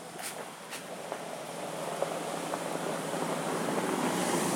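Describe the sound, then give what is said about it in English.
Footsteps crunch along a gravel path, a kind of track or small road just outside a station, a steady gritty hiss with a few sharper scrapes scattered through, growing slightly louder toward the end. No one speaks. “Gravel path, as you can probably hear everyone on Audio Boo.”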